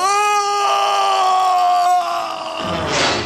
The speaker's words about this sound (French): Le crocodile, l'œil luisant, attend tranquillement le capitaine Crochet, qui est en équilibre instable, tout au bout de la grand vergue. Le crocodile s'impatiente. Le capitaine Crochet pousse un hurlement d'épouvante.